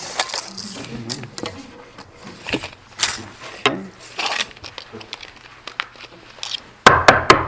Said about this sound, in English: But now it's time to put it all together into a front porch. Measure, cut, hammer, knock.